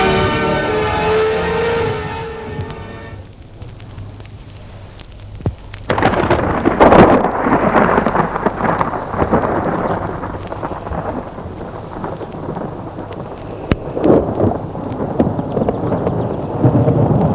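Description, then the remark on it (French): Thunder rumbles in long, rolling waves over a steady hiss of rain during a hot night storm, loud after a brief tonal intro and a quieter pause, with a strong crack near the middle. “On entend surtout le tonnerre, mais rien de plus.”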